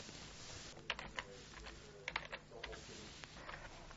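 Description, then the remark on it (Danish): Typing the search keywords "regnskab" and "SAP" into the Jobindex CV database on a computer keyboard: quick bursts of crisp key clicks in small irregular clusters, moderately quiet, with no one speaking. “Hvis jeg for eksempel gerne vil finde en regnskabsmedarbejder med kendskab til SAP, så skriver jeg regnskab og SAP nede i søgeordene.”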